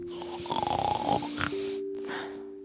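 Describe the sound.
A voice imitates a bear snoring in its den with a rough, rasping, drawn-out snore that fades into a breathy exhale, set against a steady humming tone in the background.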